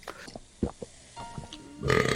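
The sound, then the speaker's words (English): A short burp pushes out in a few low, guttural bursts, followed near the end by a louder, brighter burst of noise. “I'm trying to get that burp out.”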